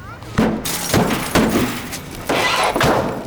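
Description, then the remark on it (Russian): A heavy mirror thrown out of a window crashes down onto a car: a series of loud smashing impacts with crunching metal and breaking glass, repeated several times over a few seconds. “Верно, Джон, но если бы ты меня предупредил, что выбросишь в окно тяжеленное зеркало с разъяренным бесом, я бы отогнал машину подальше.”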